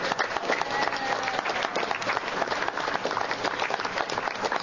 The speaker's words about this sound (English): So can he get one more round of applause?